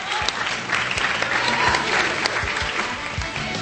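An audience claps steadily for a few seconds, a dense, even patter of many hands at a moderate level with no voices standing out.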